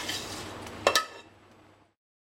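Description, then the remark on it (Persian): A spoon scrapes and stirs through rice in a pot, mixing in the other ingredients until the rice turns fully red, then knocks twice with sharp metallic clinks against the rim before the sound fades out. Moderately loud, with no talking. “حتما هم بزنید، حتما باید این مایتون با برنجتون مخلوط بشه که برنج تماما رنگش قرمز بشه، یعنی اصلا برنج سفید داخلش نداشته باشه.”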